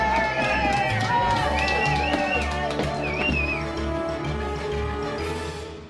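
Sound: crowd cheering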